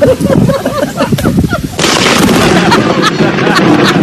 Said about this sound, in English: That is a bolt of lightning and the thunder that followed it immediately